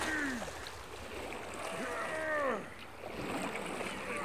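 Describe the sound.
Men in rowing boats pull a ship through the water toward Skeleton Island with no wind, with steady sloshing and splashing throughout while men's voices call out over it in drawn-out shouts.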